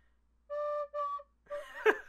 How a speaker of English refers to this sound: What is this instrument called? It's an Irish tin whistle.